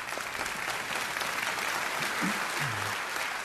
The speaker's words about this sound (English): When we go ahead and clap, that's okay.